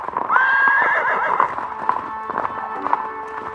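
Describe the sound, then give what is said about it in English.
The horses Silver and Scout, ridden by the Lone Ranger and Tonto: a horse lets out a loud, quavering whinny near the start, followed by a steady rhythm of hooves clip-clopping that gradually recedes. “Come on, Silver. Come on, Scout.”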